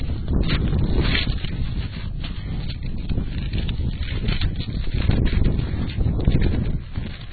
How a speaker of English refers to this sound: I like the assistance of the wind in turning the pages, except it's turning them the wrong way.